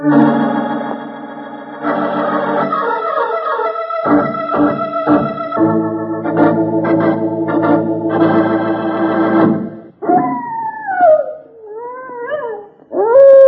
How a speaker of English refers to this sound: That's the howl of a prairie wolf, Charlie, and a hungry howl at that.